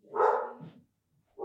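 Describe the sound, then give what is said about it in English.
A dog barks twice: a long, loud, harsh bark trailing off into a lower growl, then a short pause before a second loud bark begins. “Good boys.”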